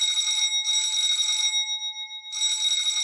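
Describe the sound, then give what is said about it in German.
A doorbell rings insistently in three long, rattling bursts, bright and metallic, with a steady ringing tone lingering through the short gaps between them. No voices. “Da klingelte es an der Tür. Und zwar Sturm.”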